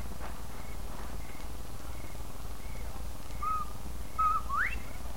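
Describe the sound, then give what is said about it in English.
A person whistles a bobwhite-style call, two short notes ending in a sharp rising sweep, heard over a steady low rumble and background hum. “When you're ready, whistle like a bobwhite.”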